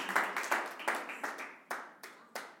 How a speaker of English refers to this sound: That was the total amount given to MetaChurch in 2018. Wow. Yeah, you can clap. Listen, I'll clap.